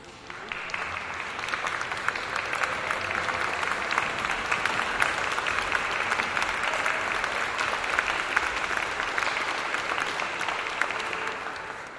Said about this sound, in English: At the end, the people clap and clap.